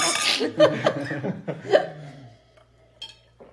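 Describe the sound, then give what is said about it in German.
Several glasses clink together in a toast in quick succession amid laughter and chatter, followed by a couple of lighter, quieter clinks as the noise dies down. “Prost, Jungs. Kommt, warte, wir müssen erst mal anstoßen.”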